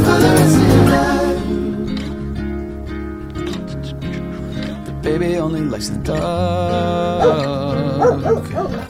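A dog barks and whines in drawn-out, yowling bursts that run almost continuously, loud, with no one talking over it.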